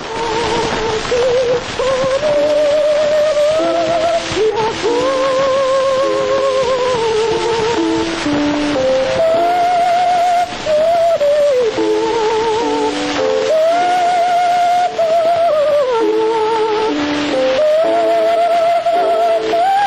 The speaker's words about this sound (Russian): Из «Пиковой дамы» поет Медея Фигнер, ария Лизы из оперы «Пиковая дама». Вот такой мог услышать эту музыку Матисс в 1911 году.